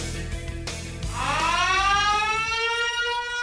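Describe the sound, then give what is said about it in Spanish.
An electronic alarm that goes off whenever someone touches a pantry door wails, starting after a low rumble, sweeping upward in pitch and then holding a steady, loud, buzzy tone rich in harmonics until the end. “Esa alarma suena siempre que alguien toca la puerta de mi alacena.”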